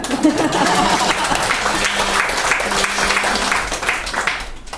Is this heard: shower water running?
no